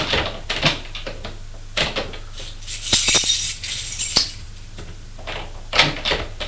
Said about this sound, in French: Tremblant, il regarde les tiroirs. Prend de sa poche un trousseau de clés. Il essaye les clés pour ouvrir un tiroir.